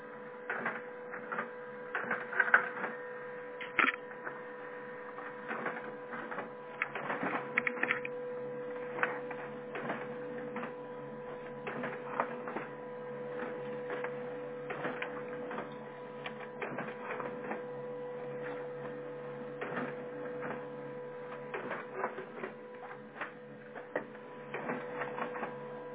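A printer runs steadily for the whole stretch, with a constant mechanical drone and repeated clicks and clacks as pages feed through, printing documents for the eighth building, with no one talking.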